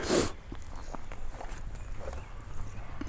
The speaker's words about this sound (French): Je pense que vous avez entendu ce bruit qui passait, ces deux biches qui viennent de bondir sous mes yeux.